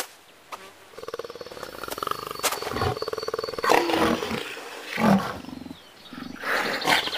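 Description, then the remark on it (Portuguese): An enormous lion lets out several deep, rumbling roars and growls, loud, with harsh breathy bursts rising and falling over a few seconds and no one speaking. “Até que um dia, durante essa travessia, ela encontrou um leão enorme, imenso, um leão-zarrão.”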